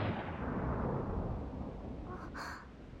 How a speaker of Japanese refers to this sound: まあ、今大きい雷だったわね。